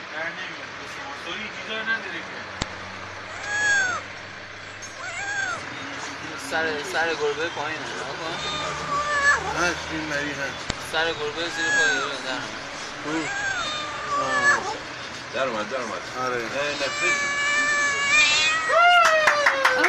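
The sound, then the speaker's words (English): A trapped kitten meows over and over in high, thin, plaintive cries while firefighters try to get it out, people talk in the background and low traffic noise rumbles underneath. “Fortunately, the firefighters came here very fast and are kindly trying to get out the kitten.”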